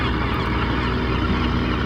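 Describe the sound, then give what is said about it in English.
A dense, continuous wash of seabird calls from a noisy colony of gulls and cormorants moving around, some flying in and some flying out, with lobster boats adding to the noise; harsh honking and squawking voices overlap steadily at an even loudness with no talking. “The gulls are noisy. They're moving around. Cormorants are noisy and moving around.”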